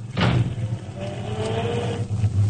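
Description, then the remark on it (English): A car door shuts with one solid thump, then a steady low engine rumble carries on with a faint whining tone above it. No one speaks. “Wait till I get the door closed.”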